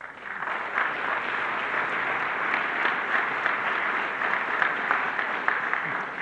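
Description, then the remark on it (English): Steady audience applause at Concordia Seminary for its president, Dr. John F. Johnson, at the start of the academic year: a dense wash of many hands clapping at an even, sustained level throughout, with no voices standing out. “Thanks for the applause.”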